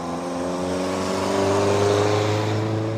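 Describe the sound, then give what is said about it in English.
A heavy coal truck's engine drones low and steady as it rolls along a winding two-lane road past a coal mining complex, the Canal Eagle Mining Complex, its rumble swelling slightly mid-way before holding. No one speaks. “All 3 sit along a winding 2-lane road that on any given day is peppered with trucks carrying loads of coal.”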